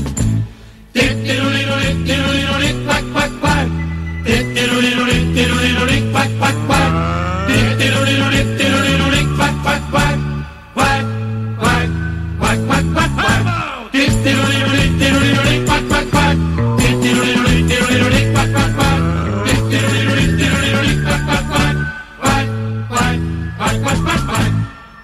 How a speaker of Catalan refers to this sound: Realment cançó simpàtica i crec que era de mèrit d'escoltar doncs almenys una cançó en mallorquí que ens és tan proper.